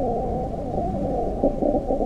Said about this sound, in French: Cette sorte de bourdonnement que vous entendez n'est autre que l'accouplement de nos deux mouches. Le mâle monte sur la femelle qui écarte légèrement les ailes afin de lui présenter ses parties génitales ouvertes.